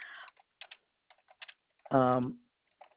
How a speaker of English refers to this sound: I'll wait till you're done typing and then.